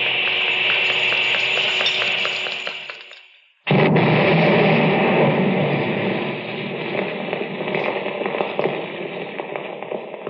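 A steady hiss of noise fades out, then a sudden loud explosion bursts in as three whole buildings are blown to bits, rolling on as a long, dense roar of rumbling blast noise, with no voices.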